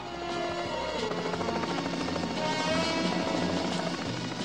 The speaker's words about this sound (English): Lassie runs back and forth as the helicopter hovers overhead. A ladder lowers from the side and Harry makes his way down to the ground on the long column of hanging rungs.